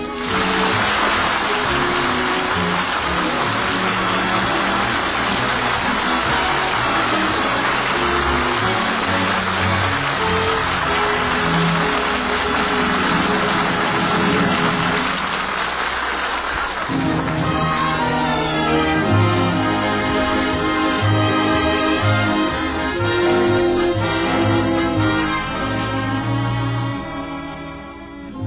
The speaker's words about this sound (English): Raining this morning in Springfield, one of those steady downpours that looks like it's going to last all day.